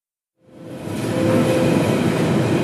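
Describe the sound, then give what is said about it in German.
After a moment of silence, the rumbling roar of a Berlin commuter train arriving at a station swells in and holds steady and loud, with a faint high whine running through the rolling wheel noise. The next stop is Humboldthain. No one speaks. “Nächste Station, Humboldthain. Achtung, Türen können automatisch öffnen.”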